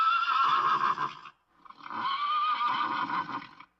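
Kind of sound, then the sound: animal, horse neighing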